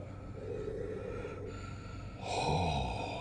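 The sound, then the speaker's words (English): Deep, heavy breaths drawn in through an oxygen mask, a long noisy inhalation followed by a louder, harsher gasp with a hollow, muffled quality, with no talking. “I never thought breathing could be so enjoyable.”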